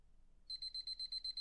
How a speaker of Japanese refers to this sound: はい、こんな感じでピピピピって鳴るタイマーを、用意しました。これで25分、はい、25分にセット、はい、25分にセットしました。